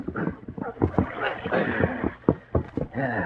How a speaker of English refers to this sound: I'll push the boat upstream a little ways.